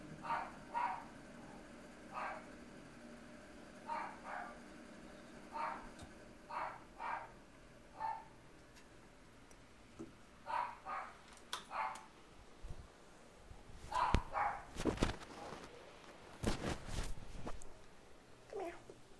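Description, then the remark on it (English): Puppies give a string of short, high-pitched yips and barks at irregular intervals, with a few sharper, louder noises near the end and no one talking. “Talk to the puppies. See if we can get them to calm down.”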